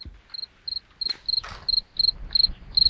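Crickets chirp in a steady, evenly spaced rhythm, about eight short trilling bursts with a faint low background rumble and no voices.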